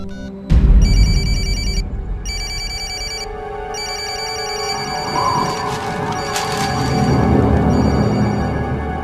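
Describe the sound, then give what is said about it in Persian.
A telephone rings with an incoming call from Vicky, a bright electronic ringtone repeating in bursts separated by short pauses, over a low rumbling background that begins with a dull thump. “یک کمی استراحت کنید، البته بعد از جواب دادن به تماس ویکی.”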